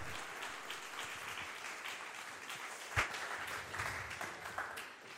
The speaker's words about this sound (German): Und jetzt ist der Moment, wo ihr klatschen dürft. Ja.